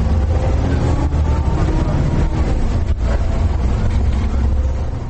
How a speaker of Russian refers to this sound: Это автобусная остановка в 7:30. Это сам автобус.